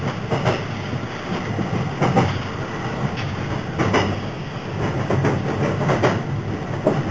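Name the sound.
train running on rails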